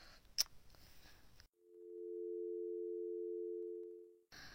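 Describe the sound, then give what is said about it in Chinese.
A phone line rings out with a single steady electronic ringback tone lasting nearly three seconds, clear, framed by brief rustling background noise, and nobody picks up. “每次一闹别扭就不接电话，小家伙一点都不让人省心。”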